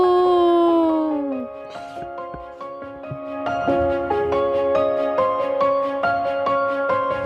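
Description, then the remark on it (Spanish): Wolves howl in long, overlapping, wavering tones, one sliding downward at the start, with a steady rhythmic pulse joining later. Loud, with no talking. “Después metieron a unos lobos en el parque y todo al menos volvió a la normalidad.”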